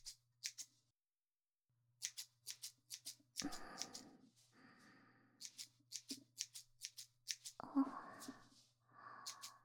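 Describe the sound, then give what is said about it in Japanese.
Crisp snips of thinning scissors thinning a boy's hair in quick clusters, with brief pauses between bursts and soft rustling and breathy movement sounds underneath. “さて、すいた髪を別のハサミで整えてまいりますね。”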